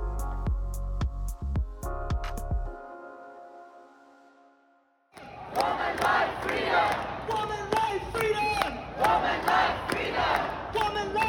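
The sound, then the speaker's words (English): After a short burst of music with drum hits and a moment of silence, a large crowd at an airport erupts in loud cheering and rhythmic chanting as a plane lands, continuing to the end. “A crowd cheered when her plane landed, chanting, "Elnaz is a heroine."”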